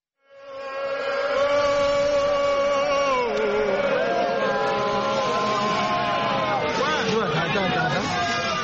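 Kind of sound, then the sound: crowd, crowd shouting and applauding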